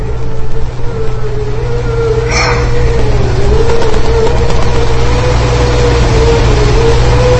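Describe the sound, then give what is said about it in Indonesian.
A broken air conditioner in a bedroom hums in a loud, steady mechanical drone, its pitch wavering slightly, with a brief rasping burst early on and no one speaking. “Sepanjang tadi yang ku dengar hanyalah suara dengungan dari mesin AC yang rusak itu.”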